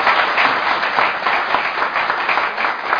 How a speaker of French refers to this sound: Félicitations au groupe de musiciens et au chantre. Hein. Franchement, il y a des belles voix, il y a du potentiel là. Waouh, c'est impeccable pour les églises mélodiques. On les applaudit.